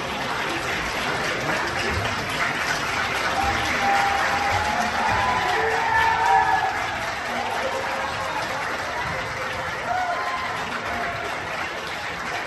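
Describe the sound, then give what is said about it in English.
Arizona legislators applaud and cheer steadily for about twelve seconds, dense clapping mixed with scattered whoops and raised voices, fairly loud throughout, cheering that there will be no conversation about the state's 1864 abortion law. “There they are cheering that there isn't even going to be a conversation about what to do about this 1864 law, if anything.”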